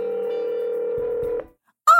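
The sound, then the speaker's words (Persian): A steady telephone tone hums for over a second, then cuts to a brief silence before another sharp, bright phone tone starts at the very end, as the first live phone-in call to a studio connects. No voices are heard. “خب الان ما اولین تماس تلفنی رو داریم و بهتون میگم که به یک خبر اورژانسی گوش بدین.”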